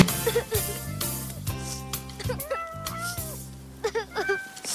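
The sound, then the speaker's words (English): A cat meows several times in quick, rising and falling cries in a film scene where a young Elizabeth Moss plays a little girl who keeps losing her cat in a tree, over steady background music with a bouncy low beat. “And in this scene, a young Elizabeth Moss is playing a little girl who keeps losing her cat in a tree.”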